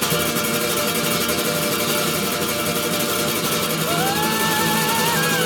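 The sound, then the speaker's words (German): Loud, continuous roar of engines filling the whole clip, with a high whine that climbs in pitch toward the end as the engines rev past. “Bis hier höre ich die Motoren. Wie ein Pfeil zieht sie vorbei. Und es dröhnt in meinen Ohren.”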